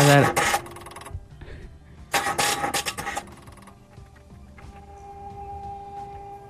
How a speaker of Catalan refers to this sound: Vaja, és un motor arrencat-se, però no arrenca.